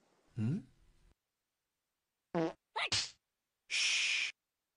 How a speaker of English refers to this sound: The yellow bug farts, receiving a tongue slap from the other.